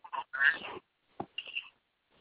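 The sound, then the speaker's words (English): A mobile phone ringtone plays a few harsh, honking, duck-like bursts in an irregular rhythm, with a brief pause before a final pair of squawks, thin and tinny in tone. “Hey, Slow, that's your phone, man.”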